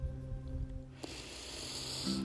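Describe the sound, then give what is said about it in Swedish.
A slow, airy intake of breath during a guided breathing exercise begins about a second in and continues steadily to the end, a soft breathy hiss over a low, steady hum in the background. “Och andas in.”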